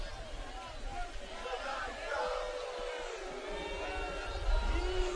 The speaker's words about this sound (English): Well, I get some groans from the Middletown crowd, at least.